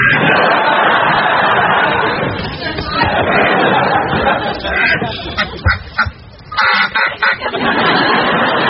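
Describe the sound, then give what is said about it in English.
A flock of chickens clucks continuously with a rooster among them, the squawks growing sharper and more clustered toward the end, over a busy background of indistinct chatter. “Yeah, I wish that rooster were dead.”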